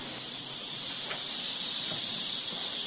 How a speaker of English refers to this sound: So I finish up my open house, go to step out the door, and there's this little rattlesnake outside. He's pretty little. He don't look too dangerous to me.